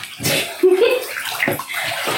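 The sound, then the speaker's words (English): Water runs steadily into a bathtub, a broad rushing hiss filling the whole stretch, with brief faint bits of voice or squeaks over the flow. “I can't hear you. I'm like, water.”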